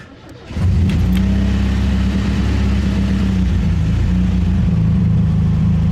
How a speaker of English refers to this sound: I place him in the front seat of the Suzuki, in his special child seat, put Bella in the trunk, go back to give Antonia a kiss, and start the car.